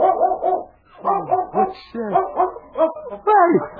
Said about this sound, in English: It's the mother dog. She followed us.